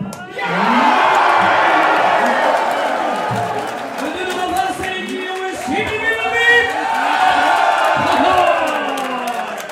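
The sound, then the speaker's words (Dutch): A large crowd of BBB party supporters in Badmen erupts in loud, sustained, euphoric shouting and cheering, with whoops and excited voices layered over each other, continuous for the whole stretch. “Nou, die was bijna niet te verstaan door al het geschreeuw op de achtergrond, omdat mensen daar helemaal uit hun plaat gingen van euforie.”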